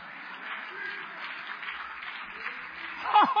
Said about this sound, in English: You heard all the clapping and laughing in here today. That's because they know the story.